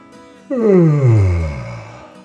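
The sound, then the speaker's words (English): A voice performs a long, drawn-out yawn, starting high and sliding down into a low, breathy groan before trailing off. It is loud, with no other talk. “Then Sashi opened his mouth wide in a great yawn.”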